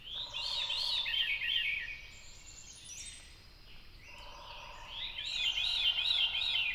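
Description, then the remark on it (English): A veery thrush sings its fluty, downward-spiraling song twice at dawn in a wet, shrubby forest clearing, each phrase bright, with fainter bird calls and soft forest ambience filling the pause between. “In a wet, shrubby clearing in the forest, I come upon a veery thrush, his magical downward spiraling flute song dominating the soundscape.”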